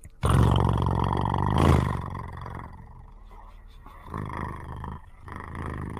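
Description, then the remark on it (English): A voice imitates the loud purring engine noise of an object seen with two extremely bright lights, likened to a Model T: a rough, rumbling drone that swells, eases off, then returns in two shorter bursts. “Also sounds like a Model T associated with it.”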